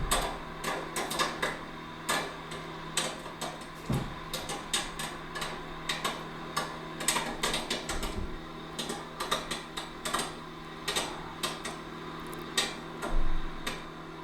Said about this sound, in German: Ja, dieses Rauschen im Hintergrund macht mich ein bisschen stutzig. Ach, Popcorn! Aber ich hätte es wirklich nur durch den... Das war aber das Mikrowellenpiepen. Das war auch das Rauschen.